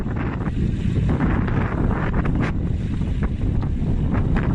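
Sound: strong storm wind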